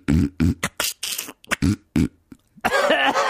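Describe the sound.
A voice imitates a man's repeated sniffing, with a rapid series of about eight short breathy bursts, followed by a longer, noisier vocal sound at the end.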